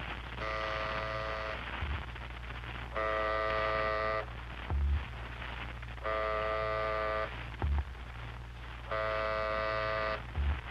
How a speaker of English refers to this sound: That second buzz was our wave reflected back from the moon. We've hit the moon. Well, it ought to be more dramatic than that little pipsqueak tone.